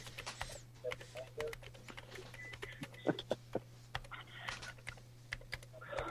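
Rapid, irregular clicking of keys on a computer keyboard, fairly crisp, with a steady low hum underneath and no voices.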